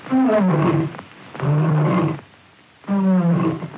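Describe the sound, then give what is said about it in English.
A lion's deep roar, Leo the Lion of the Metro-Goldwyn studio logo, repeated three times in loud bursts with short pauses between, each one rumbling and throaty before fading out. “One of the first visually was Leo the Lion for Metro-Goldwyn, which later became Metro-Goldwyn-Mayer in the mid-20s.”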